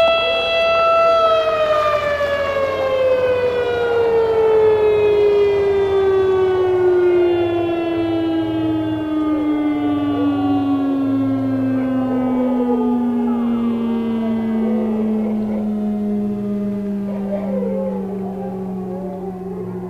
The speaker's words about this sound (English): So the air raid siren goes off twice a day. Once at lunchtime, when the whole town closes up shop and goes home, and again at 10 o'clock at night when the kids are supposed to go home to go to bed. Theoretically, anyway.